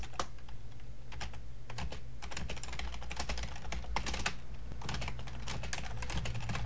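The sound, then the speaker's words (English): Steady, rapid typing on a computer keyboard as someone types a message, with irregular clusters of light key clicks over a constant low hum and no voices. “I'm going to now type a message and say something here.”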